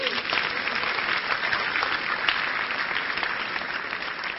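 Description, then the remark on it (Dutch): A crowd gives the Lord applause, clapping steadily for several seconds, a dense, continuous patter of hands at an even loudness throughout, with no pauses or individual voices standing out. “Geef de Heer eens een applaus.”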